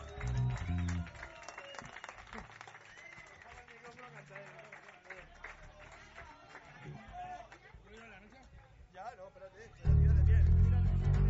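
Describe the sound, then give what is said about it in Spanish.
An audience claps and cheers in a dense, steady wash of applause with crowd noise mixed in, loud at the start, dipping slightly, then swelling sharply louder near the end. “Un aplauso para ellos, me cago en la puta, ¡vamos!”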